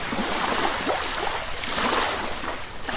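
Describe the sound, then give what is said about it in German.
A steady, continuous rush of motorway (Autobahn) car traffic fills the background, heard among the buildings and gardens of the Vitra Campus, a broad, even roar that sounds almost like surf, with no voices. “Im Hintergrund kann man sich dann vorstellen, das Rauschen der Autos von der Autobahn. Ist das Meer?”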